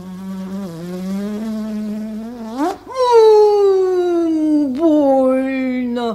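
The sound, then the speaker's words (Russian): A voice imitates a wasp's buzzing: a steady, loud drone for about six seconds that swoops up in pitch midway, then slowly slides lower. “Укуси, оса, корову!”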